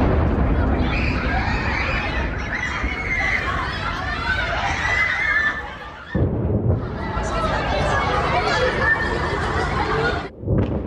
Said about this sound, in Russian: звуки разрывов, крики детей, бегущих в сторону бомбоубежища.